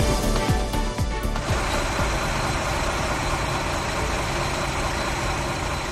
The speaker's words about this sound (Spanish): Así suenan los motores de los camiones del ejército en Massanassa, uno de los puntos más afectados. Llegaban esta misma noche, sin duda, una inyección de optimismo.